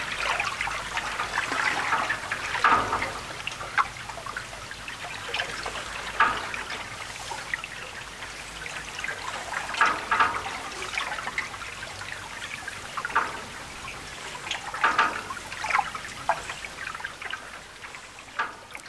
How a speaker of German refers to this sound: Von Wasserrädern, Springbrunnen, künstlich angelegten Wasserfällen, Bächlein, Deichen samt Brücken, deren Bögen das Geräusch des Wassers vielfach zurückwerfen.